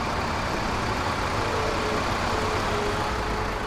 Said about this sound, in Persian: کالسکه کامیون رضا میاد کمپ لهستانیا. سربازه در رو براش باز میکنن.